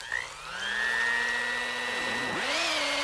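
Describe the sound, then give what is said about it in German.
Batter of flour, milk, salt and three eggs being beaten in a bowl with an electric mixer in a kitchen: a steady motor whine that dips briefly in pitch near the end as the beaters strain, then recovers. No voices. “So, schön verrühren.”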